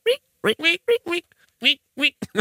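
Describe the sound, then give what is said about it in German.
A voice imitates the squeaking of latex rubbing together as someone walks, producing a quick series of short, bright, nasal squeaks with brief gaps, fairly loud, almost like quacking. “Weißt du, wie ich es mir vorstelle, dass es die ganze Zeit auch so Quietschgeräusche macht, wenn er geht, weil das Latex so aneinander reibt?”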